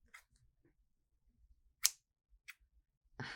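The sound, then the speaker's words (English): A zip tie is snipped off a person with a sharp snap, preceded by a small click and followed by a lighter tick and some rustling handling noise in otherwise quiet surroundings. “Here, let me get that zip tie off you.”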